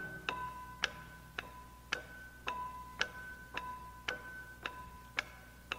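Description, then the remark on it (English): A clock ticks steadily, about eleven crisp, evenly spaced ticks in under six seconds, fairly quiet, with a faint sustained tone humming beneath them and no voices. “Every tick the clock is making means my poor heart is breaking.”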